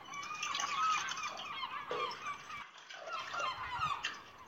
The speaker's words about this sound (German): Hört ihr die Vögel, die über dem See fliegen?